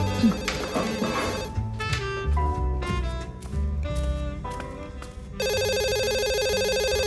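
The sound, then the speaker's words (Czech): A telephone rings with a melodic ringtone of repeating tones, loud, ending in a sustained buzzing electronic ring that continues to the end. No one speaks. “Zvedni ten telefon.”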